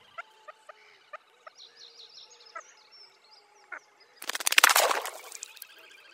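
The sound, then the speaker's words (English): Water bird calls during mating: sharp repeated clicks and high whistled notes build steadily, then burst into a loud, harsh, chattering climax lasting about a second as one bird mounts the other, before quieter calls resume. No speech. “The call reaches a climax as the bird mounts, whereupon an extremely quiet exchange of calls is heard before the top bird, oddly male or female, jumps into the water.”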